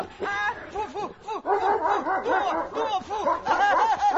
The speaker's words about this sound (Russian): Из темноты слышится грозный собачий рык и душераздирающий крик